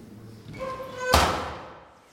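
A side door swings with a short, tonal creak, then thuds shut in one solid blow that fades quickly as people step outside on a chilly morning. No one speaks.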